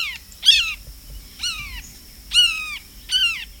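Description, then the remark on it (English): A bird gives four loud, harsh, downward-slurring screams mimicking a red-shouldered hawk, each about a quarter second long and spaced roughly a second apart, over faint background noise. “Rattles. And astute mimicry of birds of prey, such as the red-shouldered hawk.”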